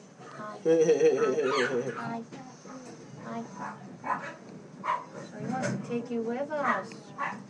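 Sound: dog barking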